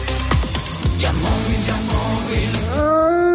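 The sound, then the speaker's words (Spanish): In a Halloween-themed radio advert, near the end a long wolf howl swoops upward and holds a steady, mournful note, following a busy stretch of loud, percussive music. “Ya estamos en Halloween y los lobos acechan.”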